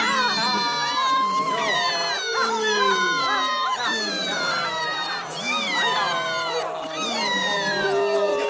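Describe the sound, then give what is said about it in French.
A dense chorus of shrill, wavering cries from many frightened, disappointed creatures called obops, overlapping and rising and falling continuously, loud and agitated throughout with no clear pauses. “Les obops, effrayés et déçus, poussent des cris de obops, effrayés et déçus.”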